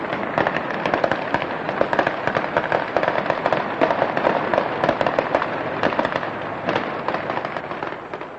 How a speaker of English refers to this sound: And there goes the farewell fireworks display. The GLC flag is being lowered on the mast in front of the riverbank side of County Hall, and more fireworks are coming up from behind the building.